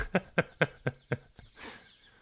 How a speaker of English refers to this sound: Have you got some, like, parakeets outside or something? Yeah, there are many birds in my mews.